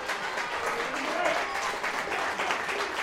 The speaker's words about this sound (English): But the applause speaks for itself.